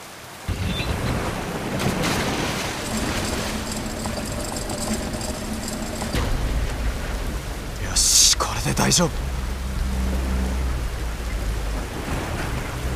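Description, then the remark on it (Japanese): A rainstorm at sea around a ship as the weather suddenly turns: steady heavy rain and a low rumble of rough water, broken midway by a loud, sharp thunder crack, while a voice speaks briefly. “なんだ、急に天気が崩れた。”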